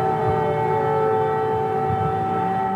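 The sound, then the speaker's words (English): An air raid siren in Kyiv, Ukraine, wails steadily in a continuous sustained tone, loud and unbroken across the whole stretch, with a faint rumble of background noise beneath it and no voices. “Siren sound in Kyiv.”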